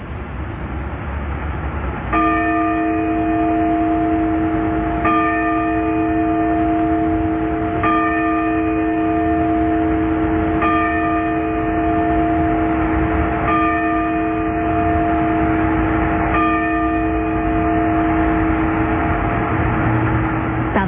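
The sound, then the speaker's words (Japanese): The Sapporo Clock Tower bell in Sapporo, Hokkaido, strikes six times for 6 a.m. at steady, unhurried intervals, each ringing tone lingering into the next, over a constant low outdoor rumble of traffic. “札幌時計台の鐘が午前6時をお知らせします。”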